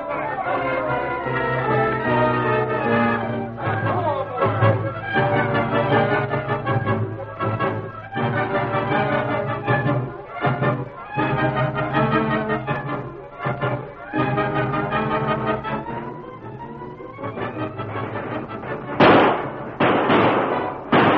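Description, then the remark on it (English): A sustained volley of gunfire, many sharp shots cracking in rapid, irregular succession, loud, with a dense, roaring wash of shouting or noise filling the spaces between, as shooters rake a room from end to end. “But rake that room from end to end. Throw lead into there till you ain't got no more.”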